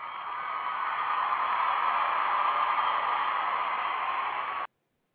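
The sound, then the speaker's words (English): A dense, steady crowd roar holds at an even level for about four and a half seconds, then cuts off abruptly into silence. “Hope you enjoyed the crowd noise there.”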